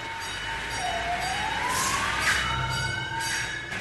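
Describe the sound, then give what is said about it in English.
A fire truck leaving its station in Chelsea sounds its siren, winding upward in one long rising wail, fairly loud and steady over a low rumble of engine and street noise, with no one speaking; the trucks squeak out through narrow doors onto Washington Avenue. “Once the trucks squeak out through their narrow doors, they often have to negotiate Washington Avenue.”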